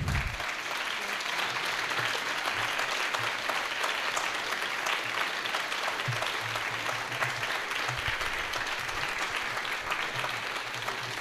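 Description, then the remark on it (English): An audience at a storytelling event claps steadily and loudly for the storytellers throughout, a dense, continuous wash of many hands with no pauses and no talking. “Yes, keep the applause coming.”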